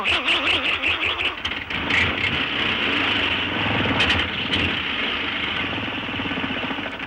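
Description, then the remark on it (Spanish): A voice imitates a car engine with a steady, rumbling drone, wavering pitch at first and then settling into a continuous, fairly loud, buzzy hum that runs for several seconds. “Un automóvil.”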